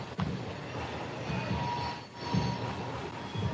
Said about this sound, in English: The train screeches on by in the outfield. Two train tracks about 100 yards off the back of the left field wall.